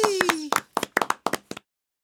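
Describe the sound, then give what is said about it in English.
A short burst of hand clapping for those who answered a quiz question correctly: about nine sharp, slightly uneven claps over a second and a half, then silence. A sustained, gliding vocal tone sounds beneath the first few claps. “Yeah, they need a big applause.”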